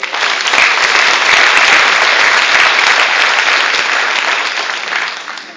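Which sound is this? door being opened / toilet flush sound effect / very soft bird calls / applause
applause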